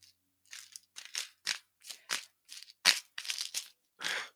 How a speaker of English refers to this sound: One second, just trying to open this bottle. Can I help? I got it. Jeez.